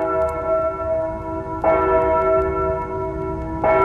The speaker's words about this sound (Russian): Когда башенные часы пробили полночь, он позвонил в колокольчик, явились пажи и раздели его с великими церемониями, омыв ему руки розовой водой и осыпав его подушку цветами.